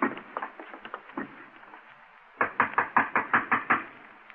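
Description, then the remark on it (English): A door is knocked on in two bursts: a quicker, softer run of raps, a short pause, then about eight louder, evenly spaced knocks. No one speaks. “Who is it? You'll open the door”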